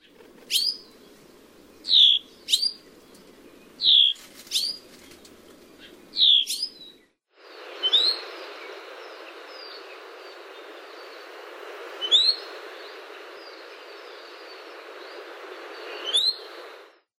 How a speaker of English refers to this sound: Here are two alarm calls as an ivy watcher finds himself too near a nest site.